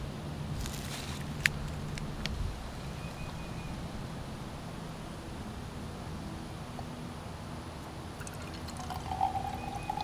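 Water collected in a jar over a couple of hours pours steadily from the jar into a sample container to be sent to a lab for analysis, a continuous splashing trickle lasting the whole time, with a few light clinks near the start and end. No one speaks.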